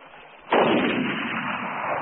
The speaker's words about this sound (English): And the third shot dropped the Lechwe.